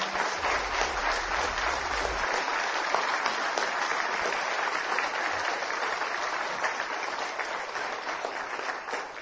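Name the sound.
applause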